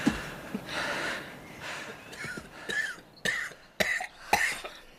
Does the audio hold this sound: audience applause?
no